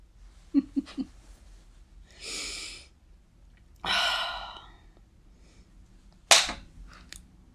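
A few light, quick smacks, then two long breathy exhales, and finally one loud, sharp slap as a person strikes their own skin, slapping themselves. No talking.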